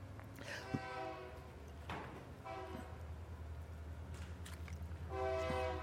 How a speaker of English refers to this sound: Oh, he's cute. He's friendly, friendly little train. What the heck was that?